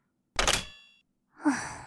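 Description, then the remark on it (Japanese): A door being locked: a sharp metallic clack with a brief ringing edge, then a softer clunk about a second later, with no voices. “ほら、鍵をかけておくからベッドに移動しろ。”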